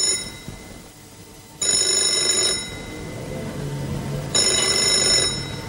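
A telephone rings twice, each bright, high-pitched trilling burst lasting about a second and separated by a longer pause, over a low background hum with no talking.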